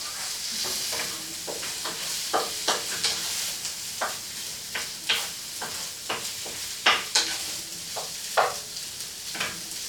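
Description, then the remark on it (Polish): Canned corn is stirred in a frying pan over a constant sizzling hiss, with a spoon scraping and clacking against the pan in irregular strokes about twice a second. No one speaks. “Wstawię i zamieszam, żeby nam się nie przepaliło i nie przewarło.”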